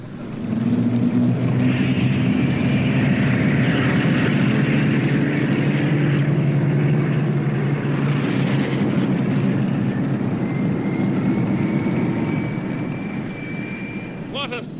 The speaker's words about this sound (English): A thousand planes taking off towards Blackpool.